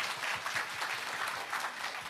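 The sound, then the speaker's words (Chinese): An audience claps hands to give glory to the Lord, in dense, sustained applause, many overlapping crisp claps blending into a steady wash of sound at an even, fairly loud level throughout. “哎，拍手把荣耀归给主好不好，大声一点大声一点。”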